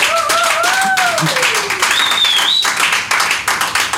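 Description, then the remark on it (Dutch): Loud, sustained applause from a crowd for a guest, dense clapping filling all four seconds, with a couple of sliding whistles rising and falling over the top. “Dames en heren, mag ik een applaus”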